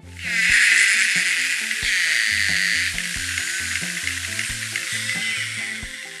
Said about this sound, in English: scientists were able to capture the clearest sound recordings of narwhals so far